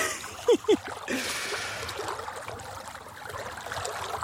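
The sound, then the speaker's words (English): Water sloshes and swirls steadily as someone wades knee-deep into the River Dee on a hot, sunny day, with two short vocal sounds near the start and no clear talk. “And the further in I go, the darker the water appears.”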